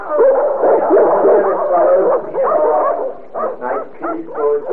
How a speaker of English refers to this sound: Get them dogs out of here. Meow. Come on, dogs, this way.